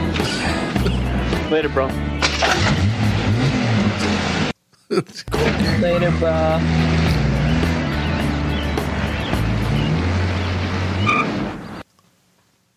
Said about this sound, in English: He turns on the car.